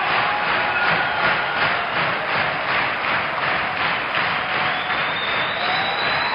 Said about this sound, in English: A standing ovation for … and friends with …, …, and the ensemble. A very exciting performance. They're calling for more. People are standing and stomping.